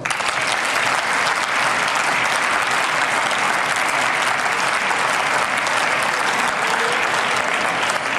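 crowd, audience applause

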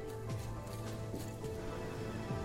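animal, horse hooves clip-clopping

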